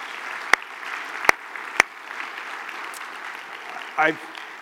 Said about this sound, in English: Thank you, worship team, and thanks to all our kids this morning. Can we give them another kind of round of applause?